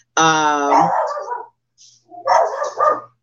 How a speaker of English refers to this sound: My dog is barking. Y'all just ignore him.